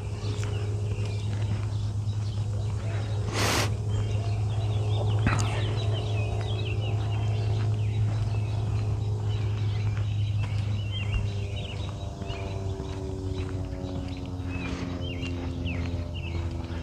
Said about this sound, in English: Birds singing.